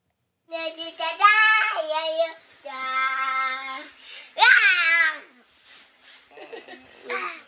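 A young child sings the final part of the theme song of the EBS cartoon Baby Dinosaur Buddy in a high, bright voice, with sustained pitched notes and short pauses between phrases, fairly loud, trailing off into softer babbling at the end.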